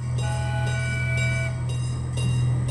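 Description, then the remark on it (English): A small zoo train at the St. Louis Zoo, running there since 1963, rolls steadily along its rails, a constant low rumble with a faint metallic whine riding on top, moderately loud, with no voices. “And as luck would have it, my brain was turning 3 back in 1963 when the train started running here.”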